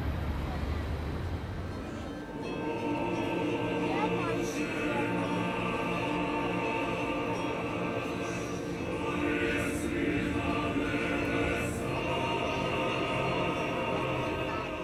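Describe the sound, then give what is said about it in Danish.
Roaring diesel engines of four very large military missile-system vehicles rumble past at a parade, a very loud, continuous heavy drone with a deep throbbing tone that swells slightly as they go by, making the ground shake. “Kommer der fire andre missilsystemer forbi. Jeg ved ikke, hvad det er for nogen, men de er meget, meget store.”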